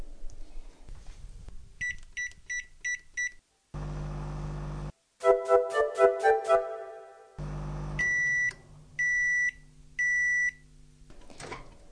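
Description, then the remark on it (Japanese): A 500-watt microwave oven heating uncovered ground chicken with kabayaki sauce for 4 minutes: short button beeps, a steady humming run, a burst of rapid electronic tones, then three loud, evenly spaced finishing beeps, with no talking. “ではラップをしないで500ワットの電子レンジで4分加熱します。”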